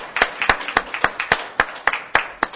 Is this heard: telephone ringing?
no